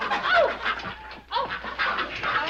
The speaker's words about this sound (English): Bird bath? If the birds want to take a bath, let them take it outside.